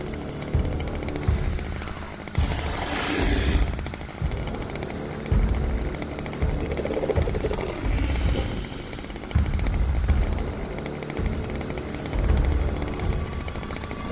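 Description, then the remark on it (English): A chainsaw engine runs loud for the whole stretch as a man moves slowly through trees wielding it, its harsh buzzing rising and falling in uneven surges with a rumbling low end and no voices. “Joe moves slowly through the trees, wielding the chainsaw.”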